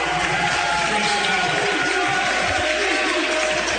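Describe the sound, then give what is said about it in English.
The student section of a large crowd applauds steadily at a basketball game as a senior player, number 11, checks in, a dense, continuous wash of clapping and cheering that stays fairly loud throughout, with indistinct voices mixed into the noise. “Ready to check in will be Engel, the senior, pacing number 11 to the applause of the student section.”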